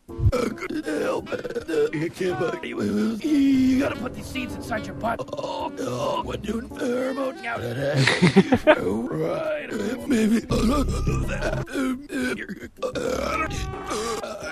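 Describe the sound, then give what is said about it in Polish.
A YouTube compilation of all the burps from both seasons of Rick and Morty: a rapid string of cartoonish burps and gruff vocal grunts, some drawn out and gurgling, others short, tumbling one after another with voices mumbling between them, loud throughout. “Znalazłem w internecie YouTube'owy filmik, który łączy w jeden filmik wszystkie beknięcia z Ricka i Mortiego z obu sezonów, wydaje mi się.”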